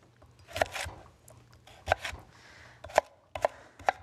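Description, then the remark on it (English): A knife chops sweet potato into small, finely diced pieces on a cutting board for a potato O'Brien dish, about seven sharp thuds at an uneven, unhurried pace, some in quick pairs, with quiet pauses between and no talking. “So just keep chopping nicely, and eventually you get it all done.”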